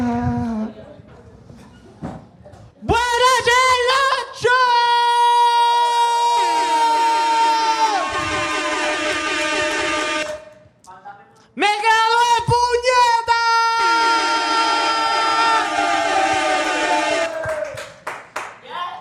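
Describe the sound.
Loud audience applause and cheering for a recent graduate being introduced as the next performer come in two bursts of several seconds each, with high whooping voices ringing over scattered claps and a brief lull between them.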